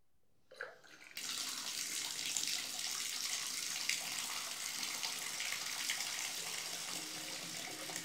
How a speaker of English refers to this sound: Okay, I think we're only supposed to fill up the tub a couple of inches, so this should be enough water.